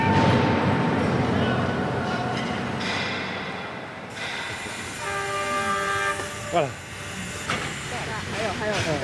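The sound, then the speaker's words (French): A steam locomotive at a coal mine in China, one of the last steam trains, hisses loudly and steadily, then sounds a sustained horn blast midway through. Rumbling and clanking continue underneath, and a voice briefly says a word. “nostalgie, émerveillement, retour en enfance et apothéose, chant du cygne d'une grande séquence de l'histoire humaine, celle de la machine à vapeur et de l'industrie.”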